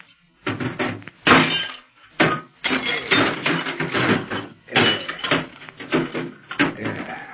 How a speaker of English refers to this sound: Yeah, to make sure nobody else hears, I'm going to wreck this short wave set.